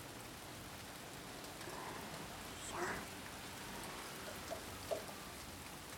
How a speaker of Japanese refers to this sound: ね？ほら、おいで。この窓際に座って、大丈夫。雨は中まで吹き込んでこないから。